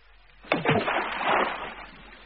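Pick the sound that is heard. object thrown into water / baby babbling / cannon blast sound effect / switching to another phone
object thrown into water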